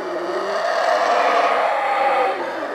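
Howler monkeys in the trees overhead roar in a loud, continuous, raspy chorus, a deep droning howl that swells slightly and holds steady for a few seconds with no voices over it, while nets for catching bats are set up beside Mayan temples.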